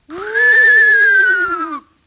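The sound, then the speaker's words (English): A single loud whinny from a thoroughbred milk horse, lasting under two seconds with a wavering, quivering pitch that slides gently downward before cutting off. No voices or other sounds accompany it. “Nice horse, isn't he, Uncle?”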